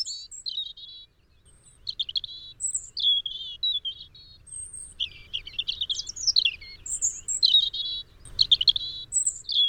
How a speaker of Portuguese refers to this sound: Este canto melodioso pertence a uma das aves mais fáceis de identificar nos nossos jardins. O pisco de peito ruivo.